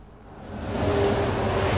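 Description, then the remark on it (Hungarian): Muffled road traffic rumbles steadily from behind a roadside noise barrier wall, a broad low wash of noise that swells slightly at first and then holds, with a faint engine hum running through it. “Mint hallható, emögött valóban kisebb a zaj, mint előtte.”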